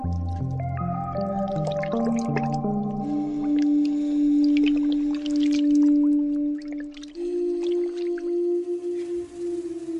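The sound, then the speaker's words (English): Self-made sour juice being poured into soy milk to ferment it and make the soy protein clot for tofu: a steady pour with gurgling and splashing, its pitch rising in steps as the liquid fills the vessel. Nobody speaks. “What's more important is that microorganisms flow into the milk with the pouring of the sour juice.”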